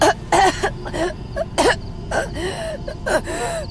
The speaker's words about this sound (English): Suddenly, she started coughing.